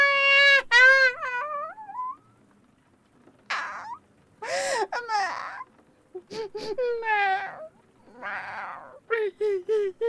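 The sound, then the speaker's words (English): A cat wails in a series of loud, drawn-out meows with rising and falling pitch, the cries coming in several bursts separated by short pauses, with no talking. “Cat sounds.”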